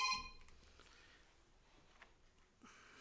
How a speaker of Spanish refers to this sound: ¿Para qué lo escondes, pendejo? De todos modos ya sonó. Suena el teléfono y lo pone debajo de la mesa el güey, como si... Para que no lo vean, amigos.